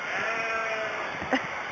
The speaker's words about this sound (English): There's a sheep over here that's just bawling like mad.